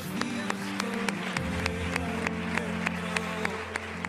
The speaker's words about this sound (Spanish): Nos reunimos para rendir homenaje a un equipo que ha hecho historia, al Saler Cosmetis Puente Genil Fútbol Club, campeón y flamante equipo de Segunda Federación. Un fuerte aplauso.